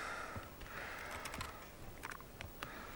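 Soft, irregular clicking of keys on a computer keyboard, a handful of light taps spread over a few seconds against a faint, steady background hiss, with no one speaking.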